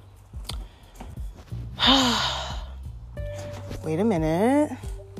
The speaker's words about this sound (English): I'm really walking on these skates because I just can't even roll. That's how you know the ground isn't made for this, because I'm walking and I'm out of shape, which is why you can hear me breathing.